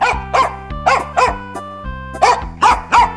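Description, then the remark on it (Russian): A dog barks loudly, about eight sharp barks in quick uneven bursts, over a faint sustained musical drone. No one speaks. “Вот села она, положила мешок на землю, и только было принялась петь, как вдруг выскочила из мешка хозяйская собака.”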